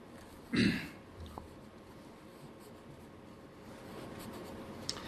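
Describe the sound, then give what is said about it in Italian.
A pen scratches quickly across paper in a steady run of dry, papery strokes, opening with a louder scrape and then settling into a soft, continuous scribble. “La mia mano verga parole rapidissime sulla carta.”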